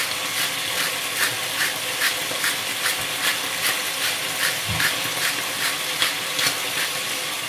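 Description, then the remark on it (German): Loud, steady hissing and sizzling with quick rhythmic bubbling pulses, as about a quarter liter of water is poured into a hot pan of browning roulades with onion on a stove at full heat; no one speaks. “Dann kommt eine Zwiebel drauf. Und ungefähr ein Viertel Liter Wasser.”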